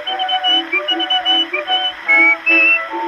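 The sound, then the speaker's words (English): A tune carried by a few bright, pure whistled notes rising over a steady musical backing, with short held phrases and brief pauses between them, clear. “Always whistling to while the time away, from the early morning to the close of day.”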